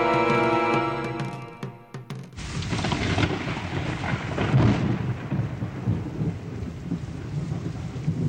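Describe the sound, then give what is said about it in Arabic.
A few seconds of sustained musical tones give way to a loud, steady wash of heavy rain pouring down, with low rumbling thunder rolling beneath it and no voices. “هذا المطر هو بداية السنوات السبع من الوفرة والخصب.”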